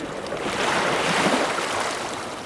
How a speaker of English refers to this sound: Yeah, I usually, just hop up here and run down the seawall. Sometimes I get down here and you almost gotta time the waves so you don't get wet.